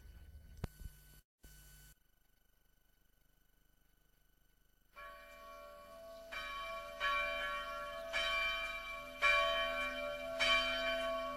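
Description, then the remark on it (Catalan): Church bells ring out in a swelling peal as the theme tune of the programme La veu del campanar, starting after a brief quiet gap and building louder with overlapping strikes and a sustained hum of resonance. No one speaks. “Continueu, estimats amics, a la sintonia de la veu del campanar, avui dedicat al campanar de la catedral de Girona.”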